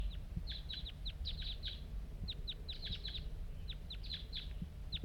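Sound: wild bird calling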